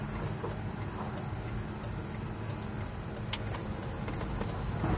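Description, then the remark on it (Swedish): An electric car driven slowly around a short test lap, picking up a little speed, with a quiet, steady low hum and soft road noise, faint irregular ticks scattered throughout, and no voices. “Nu kör jag runt så får jag höra sen. Jag kan komma upp lite med fart.”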